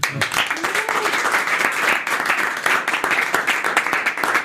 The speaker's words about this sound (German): Wow, so viele Menschen hier im Studio. Ich glaube, das ist Premiere. Erst nochmal Applaus für euch, von euch, für uns alle.